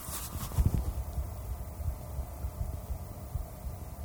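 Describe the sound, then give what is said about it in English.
A muffled heartbeat picked up by a lavalier microphone cupped in the hands thumps low and steady under a soft hiss, preceded by a brief burst of rustling handling noise at the start; no one speaks. “Now, what it is I can hear my heart beating with the lavalier if I cup my hands around it.”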